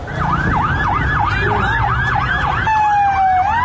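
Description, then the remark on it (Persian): Fire engine sirens wail loudly as fire trucks head toward Evin Prison, several overlapping rapid yelping sweeps, then a long steady high tone takes over near the end, with low traffic rumble underneath. “اینجا خودروهای آتش نشانی به سمت زندان اوین میروند.”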